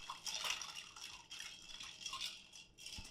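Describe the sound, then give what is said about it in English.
Ice rattles and clinks steadily against a mixing glass as a Manhattan cocktail is stirred rather than shaken, a continuous jingling swirl with no one talking. “You could shake this, but we're gonna do this stir.”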